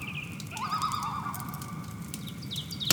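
Loon calls echo over misty water at sunrise, a wavering, tremulous wail rising and falling over a low, steady outdoor hum, with a short sharp knock near the end.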